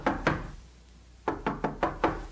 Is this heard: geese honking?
no